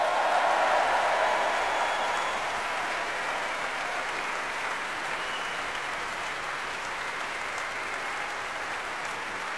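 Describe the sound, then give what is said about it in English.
Sustained audience applause at a music festival for the evening's performers, soloists Nicola Benedetti and Joseph Kalechin, the BBC Symphony Chorus and BBC Symphony Orchestra; a dense, steady wash of clapping from many hands, fairly loud throughout, easing only slightly toward the end, with no voices standing out. “And let's give a special round of applause for tonight's performers, our soloists Nicola Benedetti and Joseph Kalechin.”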